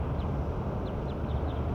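bird call

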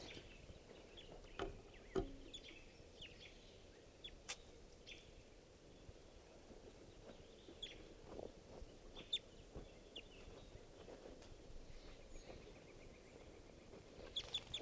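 wild bird calls

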